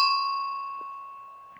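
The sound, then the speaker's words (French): A single bell rings out once, soft and far away, its clear tone lingering and slowly fading with nothing else around it. “Dans ce moment, on entendit le son d'une cloche éloignée.”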